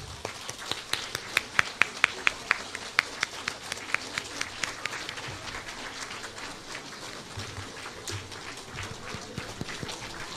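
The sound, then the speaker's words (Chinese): A large crowd applauds steadily to welcome Director Lu Junhong, a dense wash of clapping with a few sharp claps standing out near the start before it settles into an even roar. “现在让我们用最热烈的掌声恭请尊敬的卢军红台长。”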